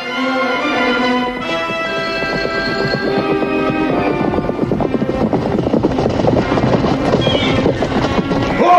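horses riding

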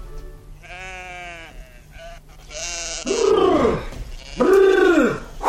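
flock of sheep bleating

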